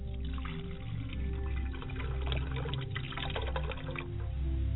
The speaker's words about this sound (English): I pour libations to the north, and I say Ashe. I pour libations to the south, and I say Ashe. I pour libations to the east, and I say Ashe.